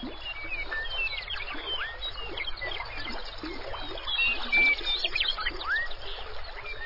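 Steady rippling water of a meandering river in Grasslands National Park, Canada, flows continuously while several birds chirp and whistle lightly in the background, their brief calls growing a little more frequent toward the end.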